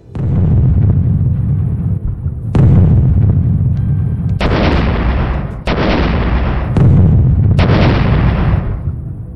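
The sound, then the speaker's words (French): A heavy artillery barrage during fighting in Berlin, the encircled German capital, with bombs raining down: deep, continuous rumbling punctuated by several loud, sharp-edged blasts that crash in every second or two, each trailing into a wash of harsh noise. “Le combat fait rage dans la capitale allemande, la ville est encerclée, il pleut des bombes”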